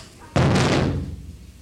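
A heavy door slams shut once with a sudden loud boom, followed by a long, rumbling echo that slowly fades away.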